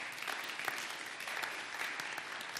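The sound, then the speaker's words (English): An audience claps their hands for Jehovah, a dense, continuous wash of many hands with scattered sharper claps standing out, holding an even, moderately loud level throughout with no voices clearly heard. “Come on, clap your hands for Jehovah.”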